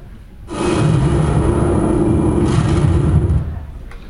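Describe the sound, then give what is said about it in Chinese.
An air raid siren, warning that enemy bombs are about to be dropped, drones at a steady low pitch for about three seconds, loud and wrapped in a heavy, rumbling roar, then fades out. No one speaks. “是空袭警报，敌人马上就要投弹了。”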